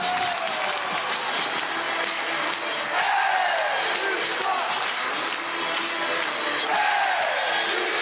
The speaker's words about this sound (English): Everybody is just on their feet screaming, kill, kill, kill, this is hockey.